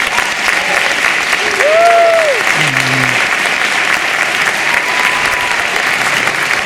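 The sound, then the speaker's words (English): An audience applauds steadily and fairly loudly throughout, a dense wash of clapping, with a brief rising-and-falling whoop or whistle cutting through near the start. “I think that they all deserve a big round of applause.”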